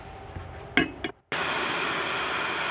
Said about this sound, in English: So we fine strain this into a glass, which has been blast chilled using liquid CO2.